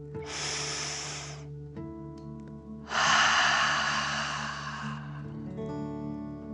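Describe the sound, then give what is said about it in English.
A long, airy breath drawn in through the nose, a short pause, then a louder, forceful whoosh of breath pushed out through the mouth, over a soft, steady musical drone; a deep relaxation breath. “Breathe in through your nose, filling up your belly, and then out through your mouth, pretending you are breathing fire. Ready? Deep breath in and out.”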